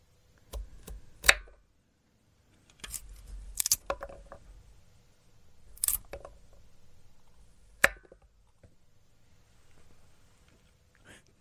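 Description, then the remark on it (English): A gruesome finger-chopping sound effect: four sharp, heavy chops land roughly two seconds apart, each followed by low squishing and crunching, fairly loud with no talking or screaming. “That was finger cutting. I guess chopping off fingers?”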